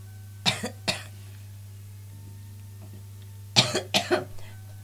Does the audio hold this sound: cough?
yes